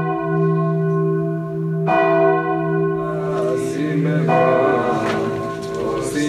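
church bells ringing

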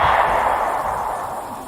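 single gunshot

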